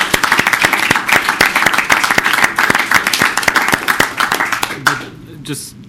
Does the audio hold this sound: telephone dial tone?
no